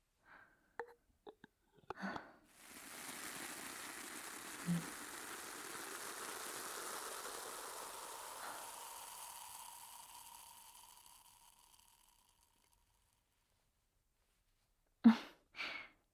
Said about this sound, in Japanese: 炭酸泉はこのぐらいでいいでしょう。ゆっくり髪や頭皮に炭酸をかけていきますね。